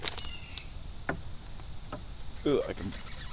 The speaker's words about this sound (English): There's a creaky tree.